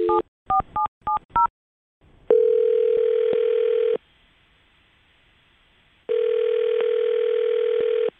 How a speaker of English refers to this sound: Well, I'm going to dial her phone number right now and see if we can figure it out, okay? Fair enough. All right, here we go.